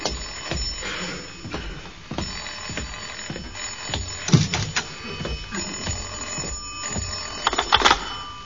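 A telephone bell rings insistently for a wrong-number call, a steady metallic jangle with rapid repeated strikes that carries on throughout at moderate loudness, with no one speaking.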